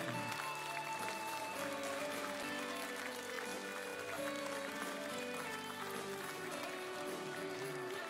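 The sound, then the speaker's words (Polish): A large crowd claps and cheers continuously at a Law and Justice (Prawo i Sprawiedliwość) political rally in Poland as Jarosław Kaczyński is introduced, the applause blending with steady music playing underneath, sustained at an even level for several seconds. “Ogromne brawa!”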